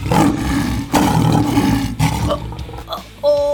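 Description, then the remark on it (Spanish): Lion cubs roar in a quick string of loud, rough bursts, three in close succession, then softer growly calls trailing off before one more short roar at the end. “¡Rugidos de león bebé!”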